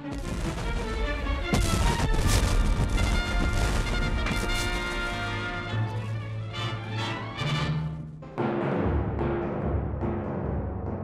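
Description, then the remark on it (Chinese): Confederate cannon shells fired at close range by the ironclad Virginia slam against the iron hull of the USS Monitor and bounce off, on March 9, 1862, in a rapid barrage of loud crashes and booms, with a dense rumbling din filling the gaps between hits. “南军炮弹击中莫尼特号的船身，弹翻转头，北军水兵欢呼雀跃，因为维吉尼亚号的火炮对他们没有造成任何伤害。”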